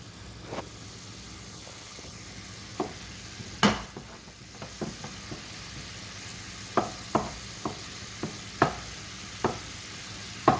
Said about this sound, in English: So I'm just mashing this sausage into little tiny pieces in the frying pan and keeping them scooted around to make sure that they get done all the way through.